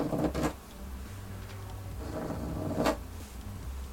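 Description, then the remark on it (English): Scratching and scraping noises come in two rough bursts, one near the start and another near the end, over a steady low rumble. No one speaks. “But then, the scratching became even louder.”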